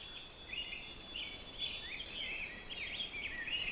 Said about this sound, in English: It's a rose-breasted grosbeak, which may seem odd because you might have them around your yard too, but they do like these bogs.